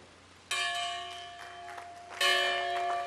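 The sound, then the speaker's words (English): A large historic church bell, which hung in a church built by slaves and free blacks, strikes twice, about two seconds apart, rung by Obama to open the National Museum of African American History and Culture in Washington. Each clang is loud and rich with ringing overtones over a low steady hum; no one speaks. “Ringing a bell that hung in a church built by slaves and free blacks, Obama officially opened the National Museum of African American History and Culture in Washington.”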